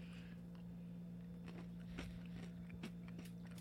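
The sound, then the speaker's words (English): Someone chews close to the microphone, producing a series of crisp, irregular crunches over a steady low background hum, with no talking. “if you're going to chew, just do this. I don't mind you eating.”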